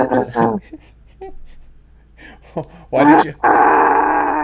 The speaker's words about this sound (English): why are you groaning? Initiative fatigue.